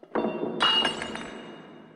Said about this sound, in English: eating his little dinner and he knocks over the wine glass, like, there's a bazillion online theories about, is it about the shattering of a man-made object?